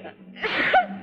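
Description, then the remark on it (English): A single short, breathy sneeze bursts out, rising quickly to a sharp peak and then cutting off, with a faint steady hum underneath. “Gesundheit.”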